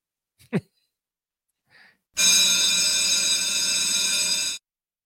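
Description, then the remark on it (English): A loud bell rings continuously for a couple of seconds in a bright, steady, metallic ring, then cuts off abruptly. A brief breathy vocal sound comes just before it. “that's the bell every day on Busted Pencils. That bell rings”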